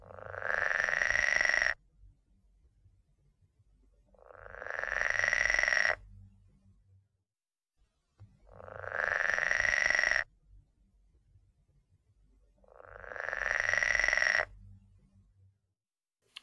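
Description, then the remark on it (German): A pool frog, the smallest native water frog, gives four long, buzzing rattle (snarring) calls, each about two seconds, repeating steadily with short pauses between; the snarling, whirring tone is loud and alone, with a low rumble underneath. “Dieser quakt aber eigentlich nicht im wahrsten Sinne des Wortes, sondern er schnarrt.”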